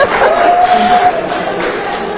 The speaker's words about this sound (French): C'est une bonne nouvelle pour la jeunesse, applaudissons au moins pour ça.